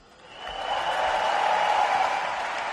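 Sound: arena crowd ovation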